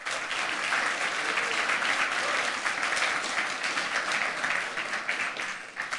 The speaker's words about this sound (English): So please give him a warm round of applause. Welcome.